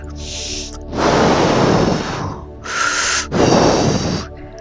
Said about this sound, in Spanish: Fuera, el lobo continuaba soplando en vano.